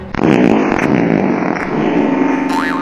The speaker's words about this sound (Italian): lanciò un peto potentissimo in direzione del barculo.